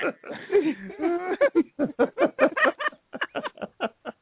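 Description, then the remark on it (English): A person's voice imitates a lamb's bleat: a quavering, wobbly cry that breaks into a rapid series of short, pulsing bursts, with no other sounds around it. “You sound like a baby sheep.”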